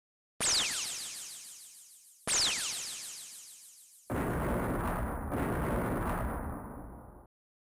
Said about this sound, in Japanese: 遠くで2つの爆発音が聞こえたような気がします。